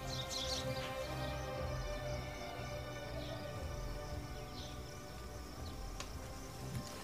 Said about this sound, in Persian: پرنده ها تو آسمون روستا پرواز میکنن.